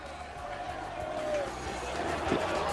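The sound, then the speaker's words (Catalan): Levante football fans chant together as Levante players arrive on foot from their parked bus, with a big ovation for the Honduran player Arriaga: a dense, continuous wash of massed voices carrying a sustained sung line, steady and fairly loud throughout the few seconds. “els jugadors que van arribant a poc, ho fan tot plegats però caminant, el bus ha aparcat de fora, moltíssima gran ovació també per Arriaga, l'hondureny, canta l'afició del Llevant.”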